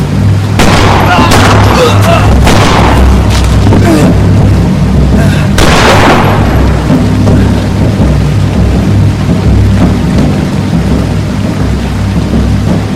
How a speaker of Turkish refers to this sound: Metin masaya bir kağıt bıraktığı anda Nesin ve Metin ceplerinden tabancalarını çıkarıp ateş ettiler. Sofu ve adamı öldü.